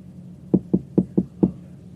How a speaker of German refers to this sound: Hier ist das Büro des Deans. Komm, wir klopfen mal.